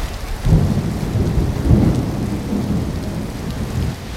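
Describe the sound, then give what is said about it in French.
Heavy rain pours down steadily during a thunderstorm, heard from shelter under an arcade in front of a gelateria, with a deep, rumbling roll of thunder swelling underneath, a dense wash of sound with no voices. “La pluie écrase tout.”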